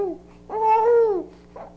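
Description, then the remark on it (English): A baby being bathed makes a drawn-out, slightly scratchy vocalization from the back of the throat, fairly loud, followed by a brief softer grunt, with no crying or talking. “Little scratchiness in the back of the throat there.”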